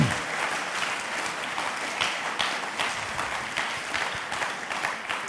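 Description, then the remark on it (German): A crowd applauds Jesus steadily, many hands clapping in a dense, even wash of sound with a few sharper claps standing out, sustained for several seconds with no talking. “Komm, wir geben Jesus einmal nochmal einen Applaus.”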